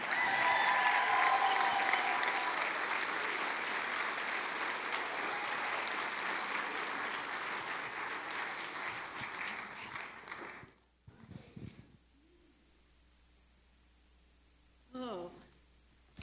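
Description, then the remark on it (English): A large audience applauds loudly and steadily for about ten seconds in appreciation of the speaker's mother, a pastor, the clapping dense and continuous before cutting off abruptly, followed by a couple of brief voice sounds in the quiet. “So if we could all give a big round of applause and appreciation for my amazing mom,”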